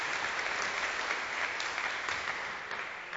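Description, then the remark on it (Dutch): Steady applause from an audience, a dense wash of many hands clapping at an even level throughout, easing only slightly toward the end, with no voices over it. “Ja, je mag best klappen.”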